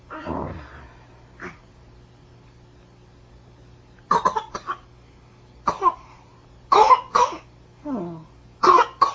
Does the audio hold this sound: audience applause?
no